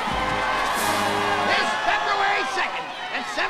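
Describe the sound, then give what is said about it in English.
A large crowd cheers and shouts at the Punxsutawney Phil groundhog ceremony, many voices overlapping in a loud, continuous roar with scattered whoops rising above it, steady for a few seconds. “Phil stares at the crowd in bewilderment.”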